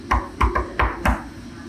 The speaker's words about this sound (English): When you hear knocking on the door, don't answer the door.